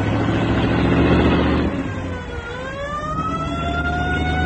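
A diplomatic car's engine rumbles heavily, eases briefly, then revs up with a steadily rising whine as the vehicle accelerates. There is no talking.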